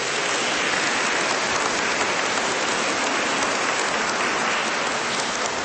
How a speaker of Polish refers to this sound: Brawa dla naszego zespołu.